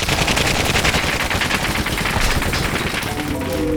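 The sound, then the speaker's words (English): Sustained, loud bursts of automatic machine gun fire rattle continuously in rapid, dense succession, relentless with no pauses or voices; heavy machine gun fire opened against a military force from an upper cable station. “Heavy fire from machine guns and anti-tank cannons was opened against the force from the upper cable station.”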